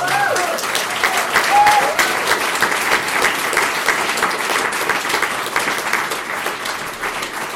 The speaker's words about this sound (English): And now you're all a part of that, so give yourselves a round of applause for being here.